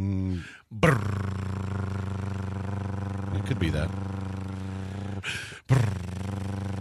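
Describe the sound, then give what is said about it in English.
A voice imitates a drum roll with a loud, sustained buzzing trill that sounds almost like a small engine, carried in long stretches broken by two short breaths, with a few spoken words. “So that sounds more like a moped than a drum roll.”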